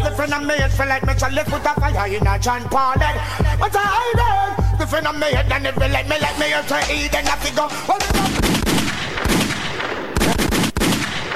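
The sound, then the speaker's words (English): A melodic music track plays, then cuts to a loud burst of gunshot sound effects: several sharp, rapid bangs with echoing crackle over the last few seconds, no talking. “Lakewood means rewind, a gunshot means forward.”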